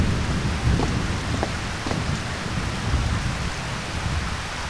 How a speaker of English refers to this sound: we're not supposed to be around that acid rain without your suit on. The toxicity of that rain.